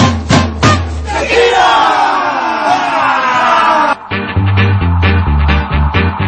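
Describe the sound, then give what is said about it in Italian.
A crowd of Sutton Coldfield Town football fans, a Southern Football League club, roars a long, swelling battle cry at the opposing team, then breaks into a loud, rhythmic chant punctuated by steady, heavy beats, many voices shouting together throughout. “E quelli del Sutton Coldfield Town, squadra della Southern Football League, terrorizzano l'avversario di turno al grido di...”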